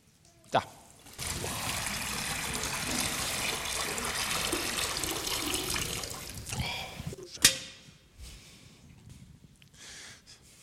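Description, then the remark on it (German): Water pours steadily into a baptismal font for several seconds, a broad rushing splash that stops abruptly, followed by a few sharp knocks and faint drips. “Jetzt gucken wir, ob wir Wasser haben.”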